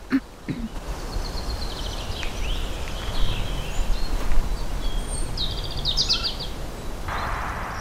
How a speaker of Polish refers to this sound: O, mamy rudzika. Który to? Tutaj tak trochę po lewej stronie. O, to. To jest tak, śpiew rudzika. Tak.